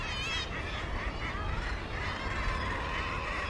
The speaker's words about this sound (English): It feels great to be on the islands. It's often quite quiet in certain places, often quite noisy in other places. You can't really escape from the noise of the birds. It's constant.